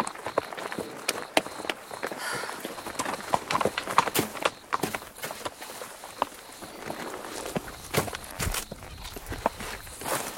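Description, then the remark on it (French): Horses' hooves clip-clop steadily in a rapid, uneven rhythm, several loaded horses moving with sharp knocks on hard ground, no voices. “Mais ne déchargeons pas les chevaux.”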